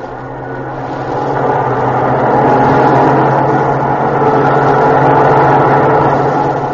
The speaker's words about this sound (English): a convoy of trucks, armored cars, Bren gun carriers. It passes. And it is silent again in this city you have always dreamed about.